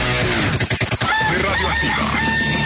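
A rooster crows once, loud, its drawn-out call rising and wavering for a couple of seconds after a few quick sharp knocks at the start.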